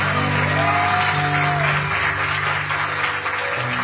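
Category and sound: crowd, audience applause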